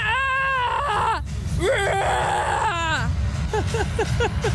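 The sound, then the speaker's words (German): A person lets out loud, wavering practice shrieks: two long, strained screams with bending pitch, then a string of short, choppy yelps over a low rumbling background. “Sollen wir dann schon mal so schreien üben oder so?”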